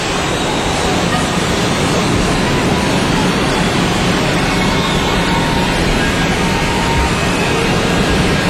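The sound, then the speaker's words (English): A steady, loud roar of stormy sea waves and gusting wind around a rock in the middle of the sea fills the whole recording, a dense wash of surf with no breaks and no voices. “The story is set on a rock. Aha. In the middle of a stormy sea.”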